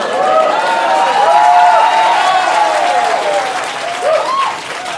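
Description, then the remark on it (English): A crowd breaks into sustained applause, a dense steady wash of clapping with whoops and cheers rising over it, holding loud for the full stretch before easing slightly near the end. “You got a lot of applause.”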